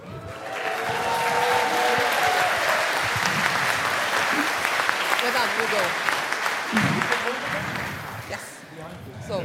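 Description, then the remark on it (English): Sustained audience applause as a thank-you to the chaos carriers who brought postcards, a dense wash of many hands clapping at steady loudness for several seconds, with faint voices and cheers mixed in before it tapers slightly at the end. “Okay, so this applause actually goes out to all of the chaos carriers, everyone that brought a postcard to someone else, so that was your applause as a thank you.”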